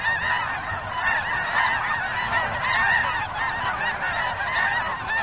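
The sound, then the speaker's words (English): A large flock of geese honks continuously, many overlapping calls forming a dense, noisy chorus that stays steady and fairly loud throughout, with no speech. “Our thanks to Cornell Lab of Ornithology's Macaulay Library in Ithaca, New York, for the featured bird songs.”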